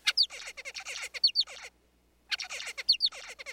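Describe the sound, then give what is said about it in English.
A male zebra finch sings two bursts of rapid, buzzy, high-pitched notes with sharp upward-sweeping whistles, separated by a brief pause of silence, recorded by researchers after the birds' break from practicing their song. “The researchers recorded the finches singing after their break from practicing and compared those songs to ones recorded before the experiment.”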